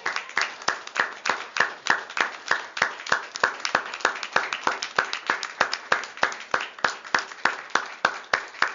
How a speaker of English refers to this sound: So please, everybody, let's rise for a moment, if I may. And give her a huge, huge round of applause.